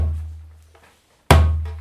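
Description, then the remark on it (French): Two deep djembe bass notes struck in the drum's center: a booming low thump already ringing out at the start, then after a short silence a second loud strike that slowly fades. “La basse, c'est au milieu du percussion.”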